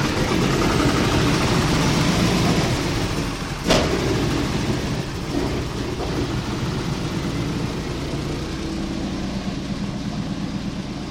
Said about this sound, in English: The old plane took a while to warm up, but soon we were moving down the runway and then rising up and out over Seattle, glistening in the rain beneath us.